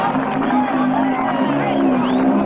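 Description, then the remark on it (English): A crowd at a motorcycle stunt show cheers and applauds after a rider does a wheelie in the ring, a dense steady wash of voices, whoops and clapping at a constant loud level for the whole stretch. “The crowd smiles and applauds.”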